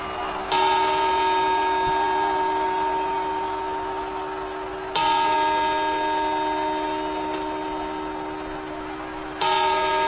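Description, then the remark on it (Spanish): The clock at Madrid's Puerta del Sol strikes three times, slowly and evenly spaced. Each loud, resonant chime rings out with rich overtones and a long, humming decay before the next strike. “Faltan solo 27 horas para que toda España escuche el mismo sonido, el de este reloj.”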